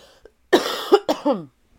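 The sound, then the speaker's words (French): A loud cough in two quick bursts, the second dropping into a short raspy throat-clearing tail, with no talking around it. “Attendez, je vais tousser.”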